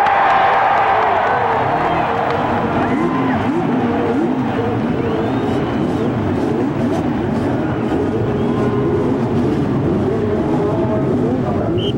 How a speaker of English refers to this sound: Gentlemen, start your engine.